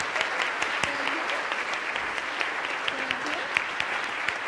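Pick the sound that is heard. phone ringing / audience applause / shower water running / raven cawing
audience applause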